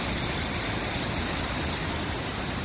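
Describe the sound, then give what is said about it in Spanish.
A steady, dense roar of torrential rain and rushing floodwater on Spain's Mediterranean coast, around Castellón and Tarragona, where the downpours have forced roads to be closed. It is loud and continuous from start to finish, with no pauses and no voices. “Estas trombas de agua que estás escuchando han obligado a cortar carreteras, incluso como la de la N340 en la Ametlla de Mar, en la provincia tarraconense.”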